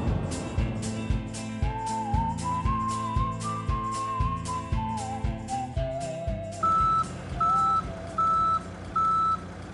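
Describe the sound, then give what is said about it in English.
A large truck rumbles as an old car is loaded onto it, then its reverse alarm sounds a steady series of evenly spaced, high-pitched beeps over the engine noise. No one speaks. “As I watch my old car load onto a truck”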